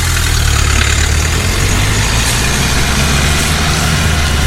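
A car engine idles steadily at the roadside, a loud, continuous low rumble with a constant hum and no change in pace throughout, and no voices.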